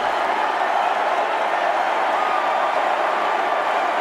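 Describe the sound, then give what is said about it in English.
A large crowd at the Democratic National Convention roars and applauds as Bernie Sanders takes the stage at the end of the night, just before 11 p.m., a dense, loud wash of clapping and cheering that holds steady from start to finish with no speech. “Anyway, so we'll get to the events of the day, but let's hear the roar of the crowd, actually, when Bernie Sanders took the stage at the end of the night, just before 11 p.m.”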